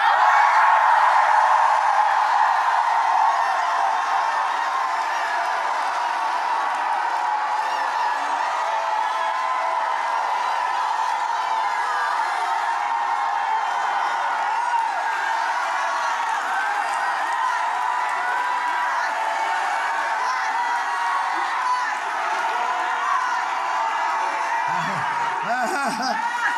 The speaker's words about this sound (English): You had anybody around you wasn't shouting? Let's try one more time. Shout.